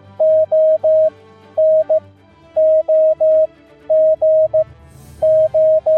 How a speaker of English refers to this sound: This sequence of Morse code characters is part of our radio history here in WA. Keep listening for the full story.